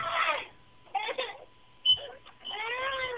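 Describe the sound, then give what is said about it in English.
A child cries and wails in loud, high-pitched bursts separated by short pauses, the last wail rising and falling. A faint steady tone hums underneath and a brief beep cuts in midway. “If you leave everything and just like drag this kid outside, kicking and screaming.”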